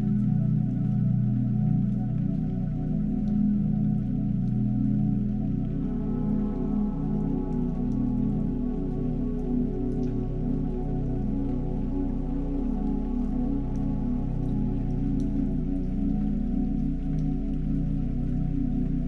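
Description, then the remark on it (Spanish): Sea waves breaking on sand make a steady, unbroken wash of hissing noise with a deep low rumble underneath, holding an even level throughout with no clear surges and no voices. “Ahora centra tu atención en los sonidos de las olas del mar.”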